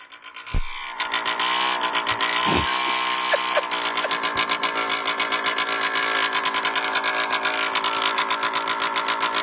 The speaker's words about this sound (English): That's just idling. You don't want to be driving through town with that sound. Really.